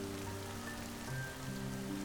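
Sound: heavy rain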